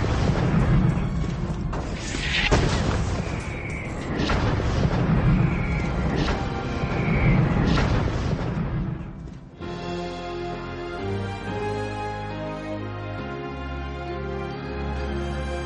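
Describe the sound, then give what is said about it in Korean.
British warships bombard Fort McHenry, defending Baltimore, with naval guns and mortars: heavy artillery booms and rumbling blasts roll in repeated waves, with high whistling shells streaking between them, then the bombardment cuts off and music takes over for the final seconds. “영국 함선들은 포트 맥헨리에 함포 사격을 가했습니다. 영국군이 쏜 포탄과 박격포탄은 비오듯 포트 맥헨리에 떨어졌습니다.”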